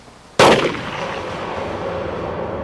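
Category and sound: impact, gunshots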